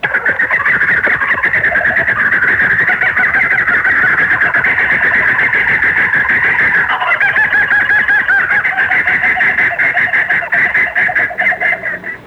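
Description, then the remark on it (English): A laughing kookaburra (laughing jackass bird of Australia) gives a loud, raucous call, a continuous rolling cackle that rises and falls for several seconds without pause, with no voices. “It is actually the laughing jackass bird of Australia.”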